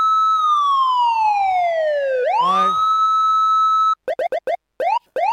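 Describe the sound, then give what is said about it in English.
A loud police siren sound effect wails, sliding slowly down in pitch, swooping back up to a steady howl, then breaking into a quick series of short, sharp chirping bursts. No voices. “Let's put the sirens on.”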